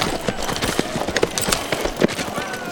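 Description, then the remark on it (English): Horse hooves clip-clop in a steady, uneven patter of sharp knocks over a rough, noisy background, moderately loud, with no voices, as Smoke rides to Hell's Creek with Vic's horse. “Then he took Vic's body and horse with him to Hell's Creek.”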